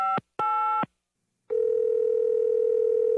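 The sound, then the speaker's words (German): Two short electronic beeps, a brief silence, then a steady, unbroken telephone dial tone that hums on at an even level until the end, with no voices, as the phone is picked up to reserve a table for two. “Wir greifen zum Telefon und reservieren einen Tisch für zwei Personen.”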